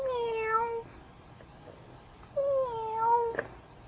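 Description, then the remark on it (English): A cat meows twice, a drawn-out falling mew followed after a short pause by a longer, wavering one, both clear with no talking. “And there's a kitty.”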